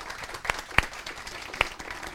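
Audience applause fills the short stretch, a steady patter of many hands clapping at moderate volume, with a few sharper individual claps standing out above the rest.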